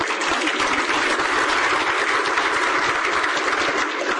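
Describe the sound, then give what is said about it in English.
A crowd applauds steadily after congratulations are offered in an official speech, many hands clapping in a dense, even wash of sound that holds at a constant loudness throughout, with no voices standing out. “That's the point where you clap.”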